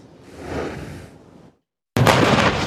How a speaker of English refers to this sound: Israeli artillery units are hammering the area along the Gaza border, targeting tunnels Hamas fighters have been using to ambush troops as the Gaza offensive intensifies.